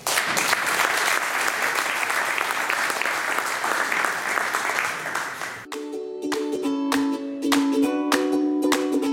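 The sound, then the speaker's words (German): A large audience claps loudly and steadily for several seconds to welcome a speaker; then upbeat music with punchy beats cuts in and plays to the end. “Sie heißen ihn jetzt bitte mit einem riesen Applaus willkommen.”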